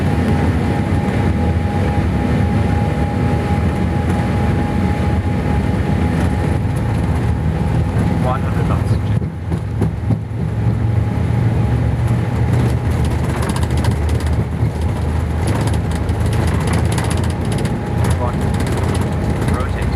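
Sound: airplane taking off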